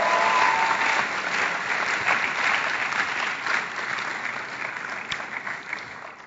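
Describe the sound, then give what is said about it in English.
Sustained audience applause, a dense wash of clapping that stays loud and steady for several seconds before gradually thinning out, with no voices rising above it. “Can we give him a wonderful round of applause?”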